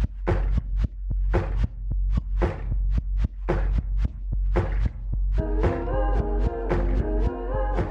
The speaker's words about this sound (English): And it starts with this beat that sounds like it's made from vinyl warps and sounds of like banging on tables.